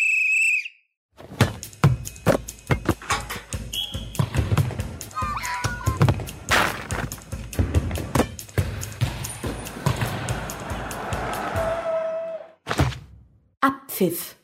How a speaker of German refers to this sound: So ungefähr nach 90 Minuten pfeift der Schiri und dann ist rum. Er kann auch vorher pfeifen und dann ist vorher rum.